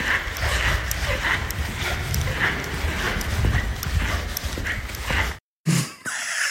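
Sneakers squeak on a floor again and again in a quick, uneven rhythm: bright, high chirps over a steady shuffle and thud of steps, with a short silent gap near the end.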